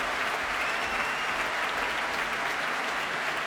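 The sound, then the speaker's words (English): Loud, sustained applause from a large audience, a dense unbroken wash of clapping with cheering mixed in, steady throughout with no voices speaking over it; a huge cheer for the orchestra's flautist as a flamenco company takes its bow. “And that huge cheer is for the flautist Richard Davis.”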